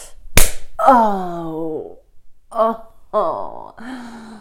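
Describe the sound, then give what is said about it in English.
A single sharp slap of a hand on bare buttocks rings out, then a voice lets out several drawn-out moaning sounds. “Oh, keep slapping my ass.”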